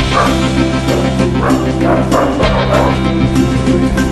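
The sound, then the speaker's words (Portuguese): A Japanese Akita dog barks and yips in several short bursts at an uneven pace, over a steady droning background with no talking. “Eu não sei se é um cachorro ou se é um ursinho.”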